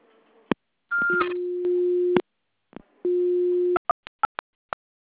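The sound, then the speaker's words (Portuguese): Electronic voicemail telephone tones signalling the start of recording: a brief higher beep, then two sustained low steady tones separated by clicks, followed by a quick series of short sharp clicks or blips. No talking. “Apito final, fale o seu nome e deixe o seu recado.”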